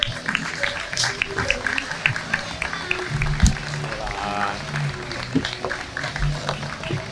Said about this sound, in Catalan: Un fort aplaudiment.